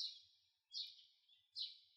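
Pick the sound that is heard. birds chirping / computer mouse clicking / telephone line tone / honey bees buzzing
birds chirping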